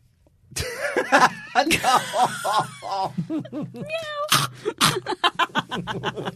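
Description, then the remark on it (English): A person's voice mimics a cat with a string of drawn-out, rising and falling meows, mixed with short breathy bursts and snickering, fairly loud. “Do a cat right now. Do it.”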